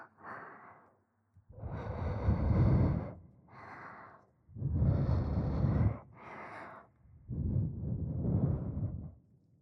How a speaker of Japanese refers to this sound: それでは。反対側のお耳も熱い吐息を。